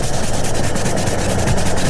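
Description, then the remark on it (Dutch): A dense, loud mass of bristly scrubbing, like many brushes working at once, with rapid rhythmic strokes layered into a continuous rasping texture over a low rumble. No voices. It depicts BP fuel with Active Technology removing dirt in an engine like an army of scrubbing brushes. “Die verwijderen vuil in uw motor als een leger schrobbende borstels.”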